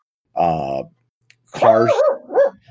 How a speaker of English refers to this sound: That's Earl's puppy. Earl, stop barking at me.